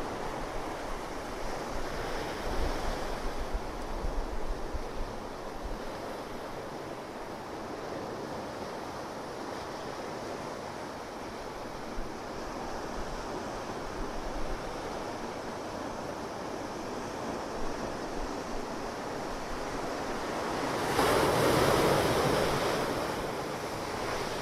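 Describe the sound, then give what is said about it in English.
Ocean surf at high tide, with the water come all the way up the beach, rolls and crashes continuously, a broad steady wash of water noise with wind buffeting the microphone, swelling into a louder breaking wave near the end. No voices. “Look at the spectacular glow of the green underneath and the crashing of the waves.”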